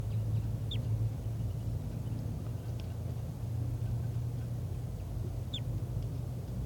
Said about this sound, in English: And there are calls coming from over there. I'm not sure which bird is giving flight calls. I think it's the wild bird.